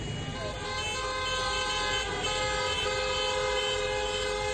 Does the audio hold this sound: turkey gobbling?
no